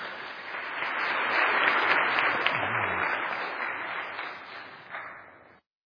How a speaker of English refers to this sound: Please give them a round of applause as they prepare.